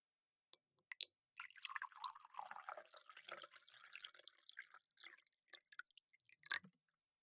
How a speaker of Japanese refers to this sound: おっとっと。こんなものかな。あたしのグラスにも入れて。